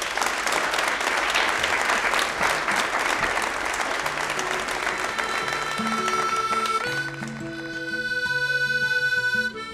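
An audience at a Red Barn Radio show applauds a band in a dense, steady burst of clapping for several seconds, then the clapping thins out as instruments begin playing sustained, stepping notes.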